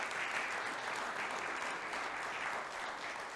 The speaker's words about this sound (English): So I want to just encourage for a minute our single people here. Could you give them a round of applause? Thank you.